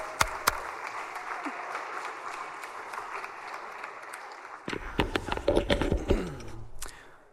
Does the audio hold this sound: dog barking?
no